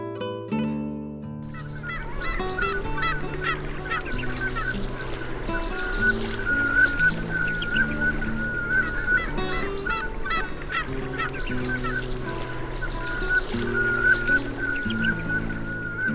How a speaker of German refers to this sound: Das war die Samtente.